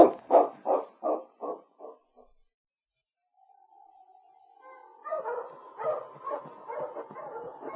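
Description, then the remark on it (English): A dog gives about six quick barks that fade away, then after a short silence a drawn-out howl swells into a busy stretch of excited, overlapping barking and yelping. “Yeah, but he isn't a hunting dog.”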